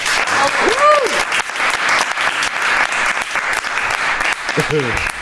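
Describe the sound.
Sustained applause from a group, dense and steady throughout, with a few brief whoops and cheering voices rising above the clapping.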